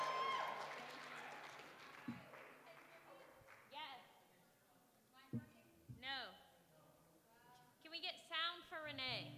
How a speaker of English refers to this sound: a big round of applause.